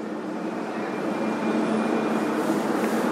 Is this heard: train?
yes